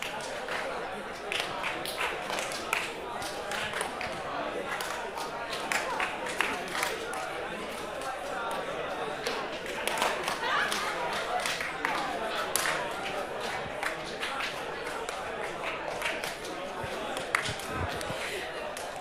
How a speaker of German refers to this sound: Ihr zählt wieder zusammen im Wechsel auf drei. Wichtig, ihr haltet den Flow. Bei eins dürft ihr entweder eins sagen oder klatschen. Bei zwei dürft ihr zwei sagen oder hüpfen. Go!